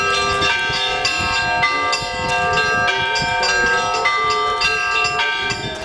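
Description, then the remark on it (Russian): Church bells of the Pokrovsky church ring a continuous, clamorous peal during a religious procession around the church led by Bishop Ignatiy, several bells striking in quick overlapping succession with long, shimmering tones that fill the space at steady volume throughout. “Под колокольный перезвон молитвенное шествие возглавил епископ Игнатий.”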